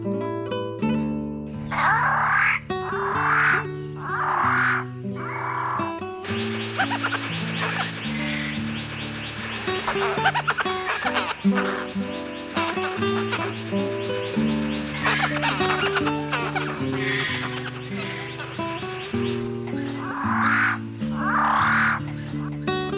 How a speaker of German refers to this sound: Gezwitscher.